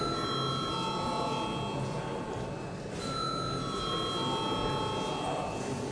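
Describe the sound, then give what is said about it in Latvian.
A continuous electric bell rings steadily for the full six seconds in a parliament, called for before deputies vote on a bill, a loud sustained metallic tone with bright harmonics, briefly shifting pitch midway, over a faint murmur of people talking. “Deputāti debatēs par pirmo lasījumu nav pieteikušies, lūdzu zvanu.”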